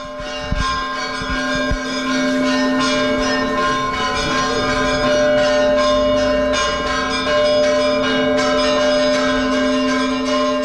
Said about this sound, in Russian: Сейчас, говорят, большой театр приедет. Бориса Годунова будет ставить с колоколами Святогорского монастыря.